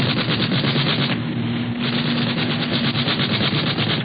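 Rapid, continuous machine gun fire from an aircraft in a dogfight in the clouds rattles without pause for several seconds over a steady low engine drone, briefly easing just before resuming at full loudness.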